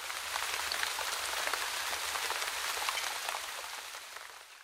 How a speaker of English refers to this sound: It's raining at the beach.